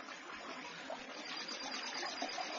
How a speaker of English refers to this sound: A river!